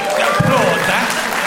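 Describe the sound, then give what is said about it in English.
A crowd applauds loudly and steadily throughout, a dense wash of clapping mixed with some voices cheering or calling out over it. “Applaud that.”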